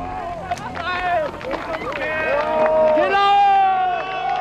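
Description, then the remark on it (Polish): Large crowds on both sides of the Brandenburg Gate in Berlin cheering and shouting as the Berlin Wall slowly disappears, with many overlapping voices rising in loud whoops and calls, a dense swell of celebratory noise that builds toward the end. “Tłumy po obu stronach bramy brandenburskiej.”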